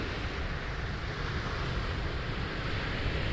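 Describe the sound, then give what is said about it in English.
Steady, full-bodied roar of ocean surf washing against the shore, a continuous wash of noise with no distinct breaks, heard alone without any voices. “And you hear the crashing waves.”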